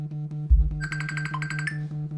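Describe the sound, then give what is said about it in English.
A phone rings with a rapid, high electronic trill lasting about a second, heard over a steady low hum, with a dull thump just before it starts. “Sorry about the ringing.”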